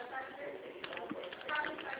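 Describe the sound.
Soft, irregular clicks of typing on a computer keyboard while checking whether a payment term can be extended, fairly quiet, with a faint murmur of background voices underneath.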